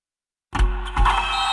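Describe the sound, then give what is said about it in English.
After a brief silence, motorized blackout window shades from Blinds.com start with a sudden whirring hum. The motor drones steadily, with a second surge partway through, and no one speaks. “Oh, no, I meant those blackout motorized shades.”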